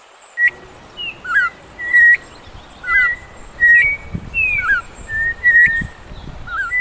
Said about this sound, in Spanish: ¡Miren este grupo de pájaros! ¡Son turpiales como yo! ¡Y me están llamando!